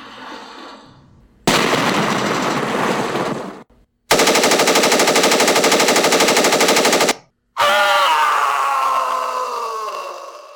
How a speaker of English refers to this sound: Die Hard is a Christmas movie. As long as you can accept some gunplay and explosions.